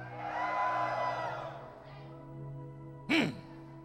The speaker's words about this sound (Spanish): Y la instrucción a José fue: los sacerdotes, denme un grito de guerra a los hombres.